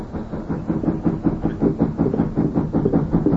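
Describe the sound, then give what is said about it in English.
Someone knocks on the door of Mallory's house in the evening, a rapid, steady series of dull, low thuds that continue for several seconds without pause, fairly loud, with no voices. “Yeah, someone at the door.”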